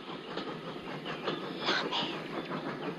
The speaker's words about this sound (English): Bobby stands apart from them all as the train steams off.